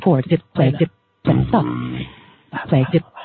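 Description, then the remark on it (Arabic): A sped-up, high-pitched voice with an added echo effect utters quick bursts of syllables, with a drawn-out middle stretch where the sound smears and trails off as an echo repeats behind it. “اسمعوا هذا النوع من الصدى كيف صار.”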